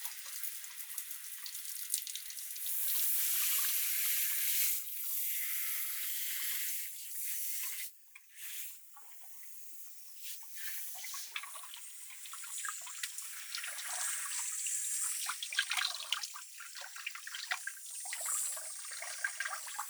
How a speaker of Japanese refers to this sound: はーい、じゃあ泡流すけね。